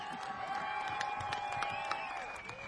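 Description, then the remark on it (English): An audience claps along in a steady, even rhythm, sharp beats falling roughly three times a second over a sustained tonal hum and general crowd noise. “It's a clap along.”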